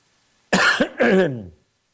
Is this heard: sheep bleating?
no